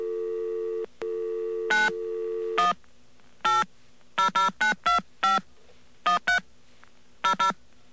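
A steady dial tone gives way to a rapid series of short touch-tone beeps as a number is punched in to call Ross Perot's United We Stand America line, each tone crisp, with brief gaps between clusters of keypresses.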